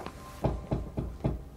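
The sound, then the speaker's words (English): A woman knocks four evenly spaced times on a door, each knock a solid, dull thump with a little ring, over a faint steady hum and no talking. “A woman knocks on the door.”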